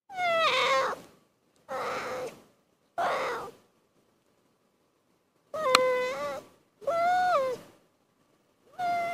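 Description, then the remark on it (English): A young animal cub makes six short, warbling mumbles while playing, in a loose, uneven sequence, each about a second long, fairly loud with quiet gaps between and no other sounds. “But they also make cute noises when they're playing. They do kind of a mumbling.”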